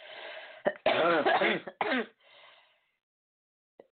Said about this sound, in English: Sorry about that. So, and I might have to redo this so that you guys have my coughing taken out.